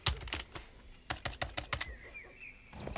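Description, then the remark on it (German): Quick bursts of typing on a computer keyboard while enlarging a picture on screen: a cluster of crisp clicks at the start, then a steady run of sharp keystrokes, followed by a faint thin tone as the tapping stops. “Doch, jetzt lass mich mal an den Rechner, damit ich das Bild von Celia Barrow vergrößern kann.”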